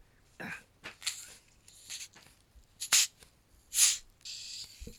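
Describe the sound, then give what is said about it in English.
A small bottle of sparkling low-calorie cinnamon-flavored cola is opened: a few soft handling rustles, then two sharp bursts of pressurised hiss and a brief lingering fizz, with no talking. “We should be able to hear the fizz from that.”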